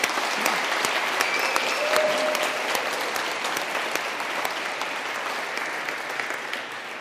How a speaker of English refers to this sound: Could we give Ziggy a round of applause?